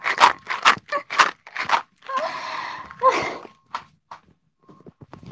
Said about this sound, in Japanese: あ、サルミヤッキさ、ちゃんと持ってんだよ。証拠がさ、聞いてこの音。箱の中でサルミヤッキちゃんが踊ってる音。